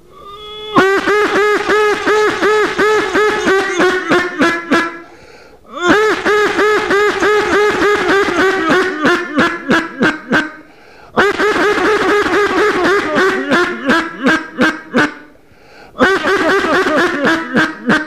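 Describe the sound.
A duck call gives loud, rapid strings of nasal quacks, each run slowing and tapering, repeated in four bursts with short breaths between them and no talking; a hunter's greeting call to bring a duck that passed over the decoys back in.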